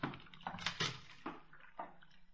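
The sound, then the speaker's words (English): Cold water is poured into a wash bowl for washing up, splashing and sloshing in a few uneven bursts, moderately loud, with no one speaking. “There's the bowl, and here's a towel. Let me pour it for you.”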